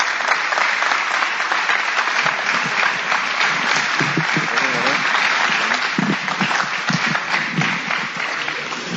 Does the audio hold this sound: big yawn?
no